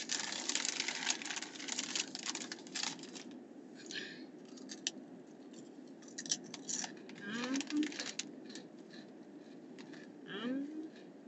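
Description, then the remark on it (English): Crisp crunching of sea salt veggie straws from Dollar Tree being chewed, a rapid series of dry, crackly bites that come in bursts, with brief murmured voice sounds in between. “And they nice and crunchy.”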